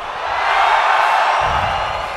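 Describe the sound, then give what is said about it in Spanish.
A live audience in Mexico City cheers and shouts together in a sustained, dense roar that swells and holds for a couple of seconds, with no single voice standing out. “A ver, es que no os oigo, ¡vamos!”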